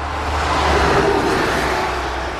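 Cars roar past at speed on a road through open meadows, a steady loud rush of engine and tire noise that swells and fades slightly with no voices.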